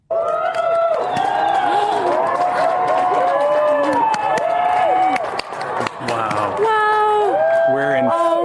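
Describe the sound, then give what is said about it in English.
A crowd in New Mexico cheers loudly and without a break while watching an annular solar eclipse, with many overlapping voices rising in excited whoops and high-pitched cries of delight, swelling and dipping briefly before erupting again. “Everyone is cheering.”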